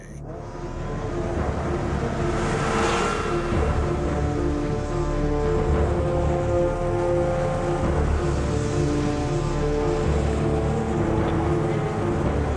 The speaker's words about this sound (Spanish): Pero en medio de este gran campo, escuché la moto de nieve arrancar con un rugido.